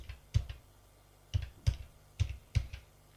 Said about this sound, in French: Prend son téléphone. Fait un numéro.